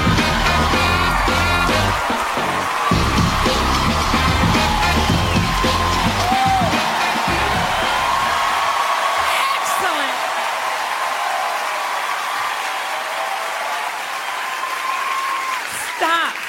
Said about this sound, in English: I'll start crying and you guys keep applauding like that. Thanks for the woos up in the balcony.